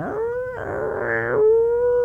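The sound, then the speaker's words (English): A feral cat howls at night outside a house in one long, drawn-out yowl that wavers and bends in pitch, rising into a strained middle before settling into a steadier wail. It is fairly loud, with no voices. “Sound like a feral cat.”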